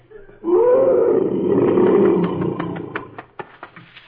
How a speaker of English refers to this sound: Look, a huge lion. Steady. When a lion growls like that, he doesn't mean any trouble. But when he roars, that's when the cowards climb the trees.